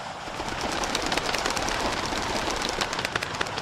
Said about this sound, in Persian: افتادم. پرنده ها هراسان پر کشیدن.